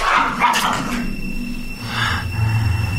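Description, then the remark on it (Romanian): A dog barks in a few loud, rough bursts, a cluster at the start and another a moment later, over a low rumbling hum, with no one speaking. “De vrei cu tine, câine, să-mi împart chilia, te rog atunci să scurm lătratul, urletul cu care scurm și stânjenești tovărășia.”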